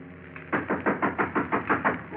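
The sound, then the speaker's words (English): A rapid, steady run of about nine firm, fairly loud knocks on a door, following a moment of faint low background hum. “Someone's at the door.”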